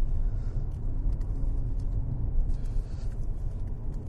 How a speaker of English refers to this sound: Fourth gear. Oh, man. Oh, this car.